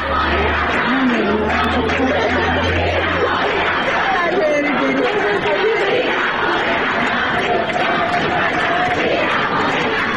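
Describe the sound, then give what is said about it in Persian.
A large crowd of students at Tehran's University of Science and Culture chants slogans loudly in unison at the Supreme Leader, a dense, continuous roar of many voices with rising and falling rhythmic phrases throughout. “شاید به خاطر همینه که بچه‌های دانشگاه علم و فرهنگ تهران همین امروز صبح بازم با صدای بلند با رهبرتون احوال پرسی کردن.”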